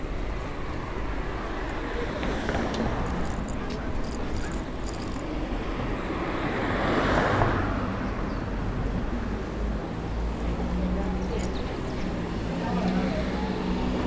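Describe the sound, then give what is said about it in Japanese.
Steady outdoor street rumble with traffic around at a four-way crossroads on Ginza-gai street in Hikone, with cars coming from several directions; one car swells louder as it passes midway before fading back into the background noise. “今四つ筋に当たっていろんな方向から車が来たのでちょっとびっくりしましたが”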